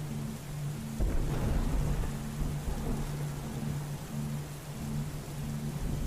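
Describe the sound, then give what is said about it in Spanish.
Steady rain hisses throughout while a deep, rolling rumble of thunder swells in about a second in and slowly fades, with a faint low hum underneath. No one speaks. “Recordá que cada trueno, cada relámpago, es una nueva posibilidad.”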